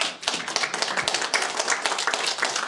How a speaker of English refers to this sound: Well, since we've gotten that out of the way, if you love the Lord, clap your hands.